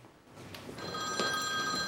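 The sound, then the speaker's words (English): A mobile phone rings with a steady electronic tone that starts partway in and keeps going, clear over a faint background hiss. “She answers her phone with a smile.”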